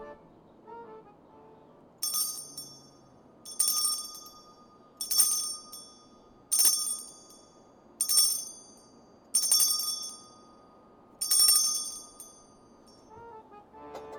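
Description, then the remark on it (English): A bright, metallic chime rings seven times at a steady, unhurried pace, each strike clear with a short shimmering decay, no one talking over it. “I think you are up with the chime.”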